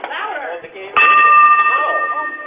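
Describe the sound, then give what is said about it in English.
A bell is struck once and rings out with a bright, sustained metallic tone that lingers, while people keep talking over and around it. “Hit this bell right here.”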